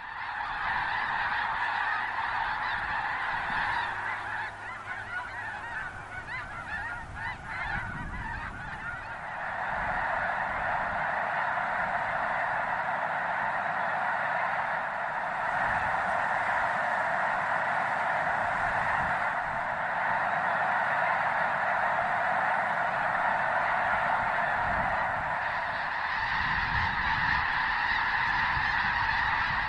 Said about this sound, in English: We leave you this Sunday morning at Lake Byron in South Dakota, where 'tis the season for geese to migrate south.